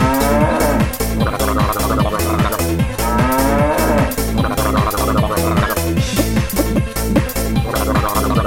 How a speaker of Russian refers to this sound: корову тык, корова мык, спасибо, бык.